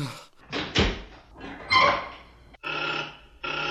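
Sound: prison door being opened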